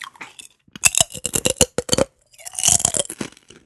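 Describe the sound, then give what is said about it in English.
A Miss Vicky's potato chip is bitten and chewed, giving a quick run of loud, sharp, dry crunches, a brief pause, then a denser stretch of crackly munching. No one speaks. “Yeah, the crunch is real. Like, here, let's listen to that.”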